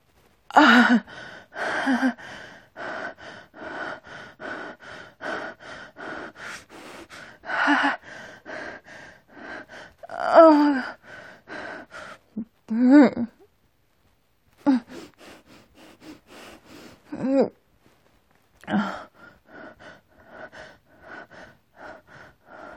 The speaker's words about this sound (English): I feel my body start to tense. My breathing quickens as you push me closer and closer to the edge.